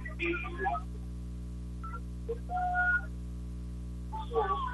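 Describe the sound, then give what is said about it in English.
A referee's whistle starting a wrestling match sounds in a few short, shrill blasts spread across the moment, over a steady low background hum, with no one talking. “Off the whistle, both wrestlers just kind of circling and part of the routine, just kind of feel your way into the match here, and don't try anything real risky right away.”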